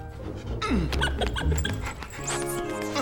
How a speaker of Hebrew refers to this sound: כלב טוב, בסטר. עמוד בשקט, זהו.